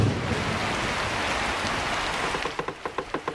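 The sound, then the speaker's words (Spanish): Heavy rain pours down in a dense, steady roar with no one speaking, and in the final second a quick, regular patter of individual drops taps out over the downpour. “Empieza a llover como si alguien hubiera dejado el grifo del universo abierto.”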